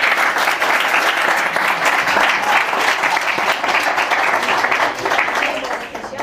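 An audience applauds steadily for about six seconds as a speaker is invited onto the stage to give a talk, a dense, continuous wash of many hands clapping at even loudness, easing only slightly toward the end.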